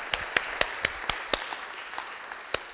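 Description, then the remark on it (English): An audience applauds: a steady wash of clapping with about a dozen sharper individual claps popping out in a loose rhythm, fairly soft overall, with no voices. “So let's just give one more enthusiastic round of applause, because this is super exciting.”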